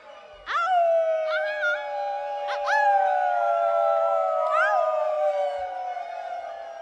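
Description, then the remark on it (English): An audience howls together like a wolf pack, many voices rising and sliding into long, loud, overlapping wails that hold steady for several seconds before tapering off. “What a wolf pack!”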